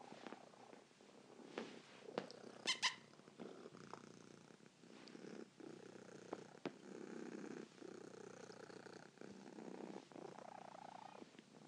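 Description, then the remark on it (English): A cat named Pinky purrs steadily, a continuous low rumbling hum with a soft rhythmic pulse, broken by a few brief clicks and rustles near the start. “I always think a cat purring is a very comforting sound.”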